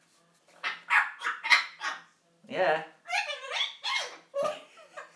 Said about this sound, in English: You crazy parrot.